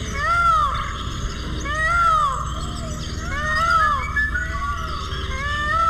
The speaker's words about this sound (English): Among the calls of the many birds at the San Diego Zoo, there's the near-human cry of the peacock.